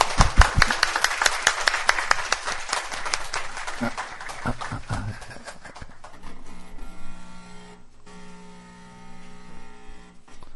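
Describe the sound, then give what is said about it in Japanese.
An audience claps together in congratulation after a prayer, a loud, dense burst of applause that thins out and fades after several seconds, leaving a steady low hum. “はい、感謝、もう一度拍手して。”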